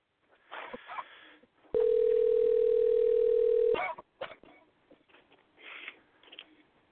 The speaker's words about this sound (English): It's still ringing. It's still ringing, and I hung it up.